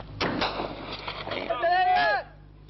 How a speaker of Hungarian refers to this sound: Ez a férfi csak a figyelmeztető lövés után állt meg.